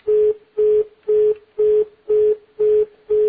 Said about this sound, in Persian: خب ظاهرن تلفن این دوستمون قطع شد.